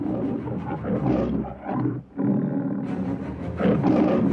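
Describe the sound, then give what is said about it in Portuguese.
The tiger Shere Khan roars loudly, a deep rumbling growl that breaks off briefly, then surges into a second long, harsh roar. No one speaks. “Houve um segundo rugido e um imenso salto no ar. Em um instante, Mowgli levantou-se em posição de defesa e viu o tigre Shere Khan cair bem em cima de Balu, deixando o urso completamente nocauteado.”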